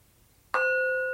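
A meditation bell is struck once after a brief near-silence, its bright, clear tone ringing out and sustaining with a long, slowly fading shimmer, at the start of a Plum Village-style breathing meditation. No one speaks.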